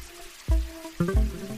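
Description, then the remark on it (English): Water trickles and gurgles in a park lagoon, with a few soft, low splashing bursts over a quiet, steady background and no one speaking. “But what brought me back was hearing the water.”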